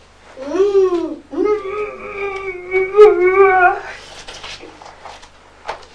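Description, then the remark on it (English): A child's voice imitates an elephant's trumpet: a short rising-and-falling squeal, then a longer, wavering, high-pitched call held for a couple of seconds, trailing off into breathy noise. “Is that the noise elephant makes?”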